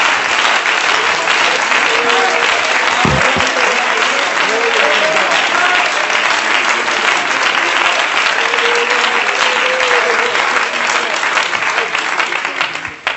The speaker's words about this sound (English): Let's give the Lord a hand clap of praise together right now. Thank you, Jesus.